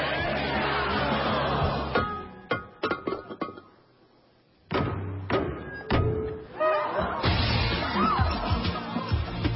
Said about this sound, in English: It's a tradition. The maid of honor shatters a vase, and it symbolizes happiness for the bride and groom.